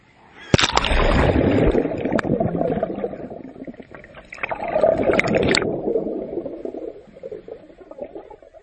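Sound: water splashing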